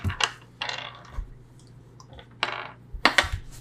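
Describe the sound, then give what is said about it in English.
A small six-sided die is rolled during a tabletop role-playing game and clatters on a hard surface in several quick, sharp bursts of clicks and bounces, moderately loud, with no talking. “Roll a d6 for me.”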